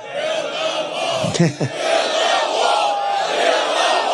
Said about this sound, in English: They're screaming, build the wall. Build the wall.